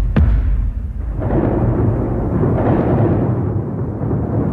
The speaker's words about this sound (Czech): Počkej, počkej, vždyť tu mám buben jako hrom. Tak si to aspoň zkusím!